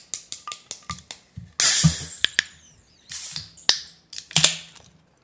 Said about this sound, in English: Oh, let's crack open the Guinness.